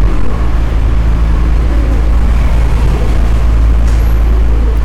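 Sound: city bus stopping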